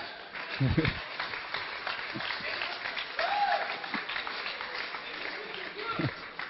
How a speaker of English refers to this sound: It's the brothers who are clapping here, okay?